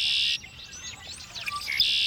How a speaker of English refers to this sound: Red-winged blackbird.